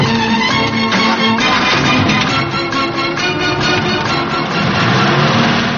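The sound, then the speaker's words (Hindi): A taxi in Bombay turns over and keeps running, a loud, steady mechanical drone with rising revs as the car pulls away, with no voices. “कमाल है, ये टैक्सी है या तराजू?”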